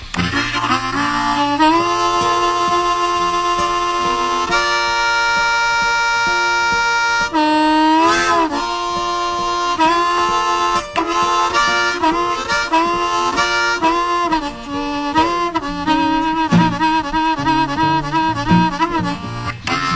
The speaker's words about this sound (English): About to come to a crawl and they got to blow the whistle, over.